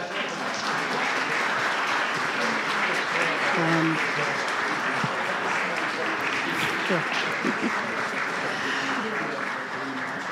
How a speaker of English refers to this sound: They're applauding you, I would think, from the terrific interview so far.